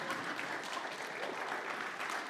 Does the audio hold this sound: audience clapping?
yes